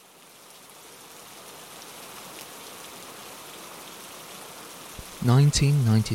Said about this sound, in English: Seattle, Washington State. Staring out of the window of his office, overlooking a rainy Seattle, Bill Gates ponders the future of his business and the world.